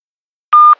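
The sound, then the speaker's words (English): A single loud, steady electronic beep from an answering machine, a pure mid-high tone lasting about a quarter second, followed by a faint short click, with silence before it and no voices. “An inquiry on an answering machine.”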